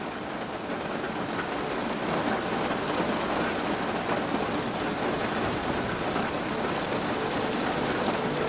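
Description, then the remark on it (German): Steady rain falls continuously, a dense, even hiss of drops pattering on surfaces with no pauses. No one speaks; the downpour stays at a constant, moderate loudness throughout. “Du machst dir eine Tasse heißen Tee, der in deinen Händen dampft, und setzt dich an das kleine Fenster, durch das du den Regen beobachten kannst.”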